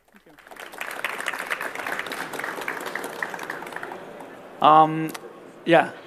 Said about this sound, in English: So thanks a lot that you're here, and that's your applause.